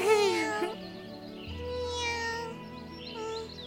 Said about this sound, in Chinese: 哎，你们听，有一个好像一直喵喵叫的声音。哎， 这个声音听起来，哎呀，这只猫咪好像很虚弱的样子。